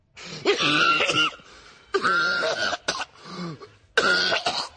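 Three harsh, raspy bursts of coughing and throat clearing, loud, each lasting about a second with short pauses between, sounding strained and exaggerated, with no speech.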